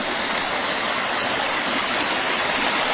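A small waterfall in a creek lined with birch trees splashes and rushes steadily, a continuous bright hiss of falling water with no pauses and no voices.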